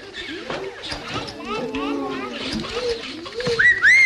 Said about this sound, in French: Quelle imbécile qui a sifflé ? Ah, je vous préviens, je vais être injuste. Si le coupable ne se dénonce pas, c'est le voisin qui prendra,